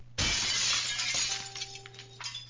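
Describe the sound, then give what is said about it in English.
A loud crash of glass being deliberately smashed by someone in a motel room, followed by a second of tinkling shards scattering and settling, with a faint background hum and no voices. “You hear all this glass I'm breaking?”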